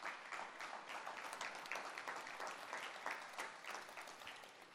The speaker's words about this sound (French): Vous pouvez les applaudir, ils le méritent.